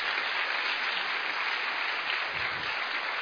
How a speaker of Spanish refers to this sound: Así es que un segundo aplauso para esta maravillosa pareja.